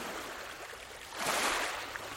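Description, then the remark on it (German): Soft, steady rushing of sea waves, a broad hiss that swells gently in the middle before easing back. Quiet and continuous, with no voices. “Du hörst nichts außer das leise Rauschen des Meeres.”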